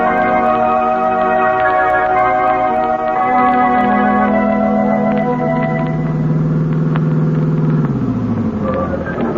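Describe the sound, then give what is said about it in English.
A car engine hums steadily as it drives, then its pitch sinks as it slows and pulls up to a stop at a museum near the end. No one speaks. “We'll leave the car here, Margot.”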